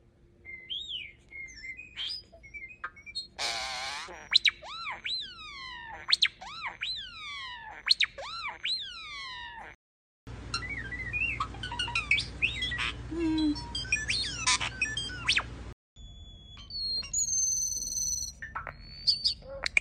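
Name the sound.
common starling song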